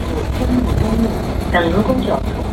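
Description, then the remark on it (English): A steady, loud roar fills the inside of a moving bus, engine rumble mixed with a stiff April wind blasting through all the open windows, with faint muffled voices in the background. “A stiff April wind blasts through the bus. All the windows are open.”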